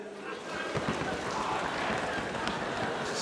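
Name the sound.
hail falling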